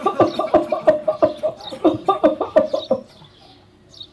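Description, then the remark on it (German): A voice imitates a fit of coughing: a rapid string of short, harsh, voiced bursts for about three seconds, fairly loud, then a quiet tail. “Und er fing an zu husten.”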